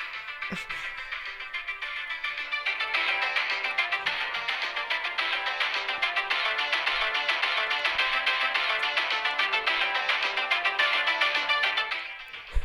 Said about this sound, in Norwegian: Det høres ut som noen har tatt noe opp på en Walkman, og så spiller de det av på en annen Walkman gjennom telefonen din.